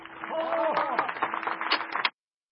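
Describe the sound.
A burst of audience applause, dense crackling claps that hold steady for about two seconds before cutting off abruptly, with a faint voice or cheer mixed in near the start.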